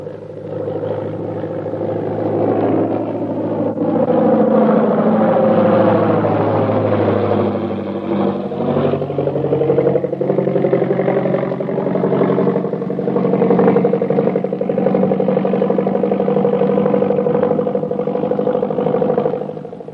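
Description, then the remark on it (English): An airplane's engines drone loudly and steadily as it arrives and taxis at an airport, with layered humming tones that slowly rise and fall in pitch. No voices are heard. “Here comes the plane.”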